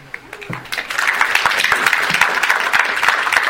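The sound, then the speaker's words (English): An audience breaks into applause after a brief quiet start, many hands clapping in a dense, steady patter that stays loud for several seconds. “You're supposed to clap or do something so we know it's beginning.”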